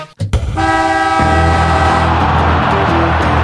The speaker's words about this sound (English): It's just a siren blowing.